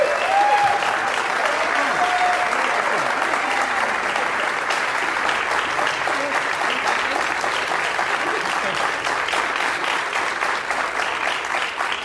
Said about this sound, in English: And now to finish our show, I'd like to bring them all back on stage. I think they've all been wonderful. They deserve a big round of applause. So all of our performers, thank you so much.